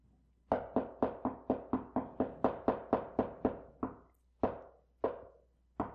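Someone knocks on a closed door, a quick run of about a dozen firm raps, then a few slower, spaced-out knocks that trail off. No one speaks.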